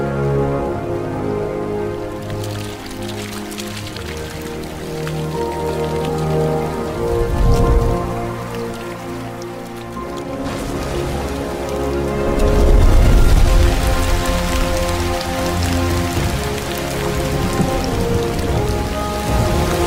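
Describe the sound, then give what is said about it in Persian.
Heavy rain pours steadily during a storm marking the end of the hot, dry season, with deep rumbles of thunder swelling around the middle, and a sustained musical drone running underneath throughout. “باران زمین را دوباره شکل رودخانه دوباره پر می شود.”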